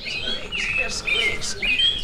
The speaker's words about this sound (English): The toy birds are loosely modeled after real ones, with chirps that match their species. Soon, the room sounds almost like a forest.